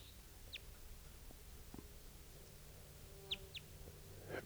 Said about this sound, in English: Wild bird. Interesting variant in type 2. Stop. So recording here is that same type 2 bird, wild bird.